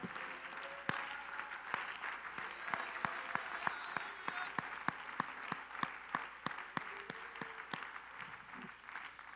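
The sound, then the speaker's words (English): A crowd applauds steadily, many hands clapping together in a dense, continuous patter with a few sharper individual claps standing out, filling the room at moderate volume without any talk. “Somebody just clap your hands for just a moment.”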